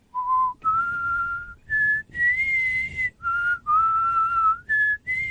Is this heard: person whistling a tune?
yes